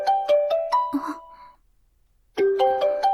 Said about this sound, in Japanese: あれ？電話？